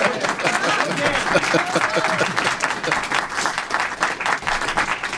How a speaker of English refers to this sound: is our opportunity with a studio audience, which is a little bit unique for radio. So we're going to ask if the audience, if they want to get their 10 seconds of applause for all these candidates, you can do so right now for joining us this morning.